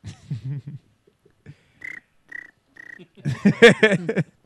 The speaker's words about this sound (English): Can we get the cricket sound